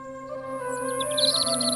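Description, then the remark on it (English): Birds chirping in quick, repeated high notes that grow busier toward the end, set over a steady humming drone in the background. “Birds chirping.”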